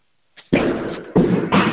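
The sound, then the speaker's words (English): Loud fireworks set off by people in a residential complex: three sharp, booming blasts in quick succession, each with a crackling, noisy tail, after a moment of quiet. No one speaks. “Oh, that's some people in my complex setting off some fireworks.”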